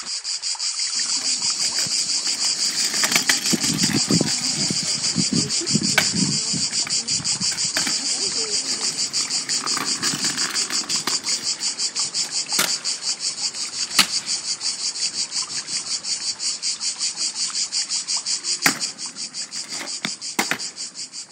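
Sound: cicada singing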